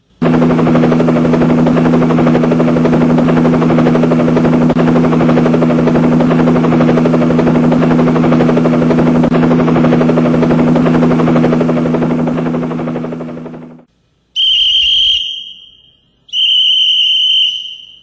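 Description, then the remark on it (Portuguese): A loud helicopter drones steadily with a heavy rotor hum for about thirteen seconds, then cuts off, followed by two short, shrill whistle-like beeps. “Vim no meu helicóptero, homem.”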